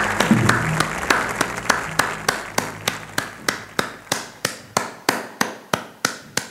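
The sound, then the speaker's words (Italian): A single person clapping slowly and steadily, about three claps per second, each sharp clap distinct, with faint background murmur early that fades to near silence; applauding alone after a piece of music ends. “Liberai un applauso lento, soltanto mio.”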